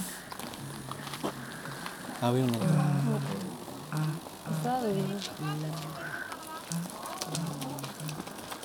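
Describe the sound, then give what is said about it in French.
A steady, fine crackling fizz of electricity in an overhead wire runs continuously throughout, while a voice speaks over it. “Il paraît qu'on entend le bruit de l'électricité qui crépite dans le fil.”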